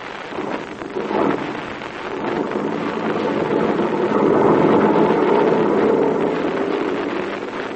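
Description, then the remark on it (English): A heavy truck engine rumbles into a thick, steady drone that swells in loudness midway and holds as the truck pulls away from Captain Blaze's headquarters and lumbers down a narrow mountain road, with no voices present. “The heavy truck was started. It pulled away from the headquarters of the red-whiskered Captain Blaze and lumbered down a narrow mountain road toward a river that cut through a narrow gorge.”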